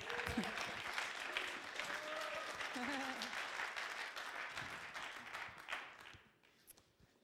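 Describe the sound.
An audience claps steadily in a dense, sustained applause with scattered cheers and voices mixed in, welcoming a man invited up for an interview, holding strong for about six seconds before thinning out and fading.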